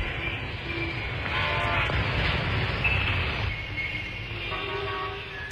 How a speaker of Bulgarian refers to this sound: Градската железница прогърмява. Трамваи и автобуси, автомобили и велосипеди изпълняват песен концерт.